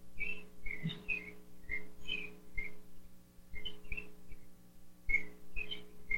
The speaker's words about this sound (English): She just says, I love the birds and other jungle sounds. Yes. I am so used to this that when I leave the jungle, I don't hear the birds.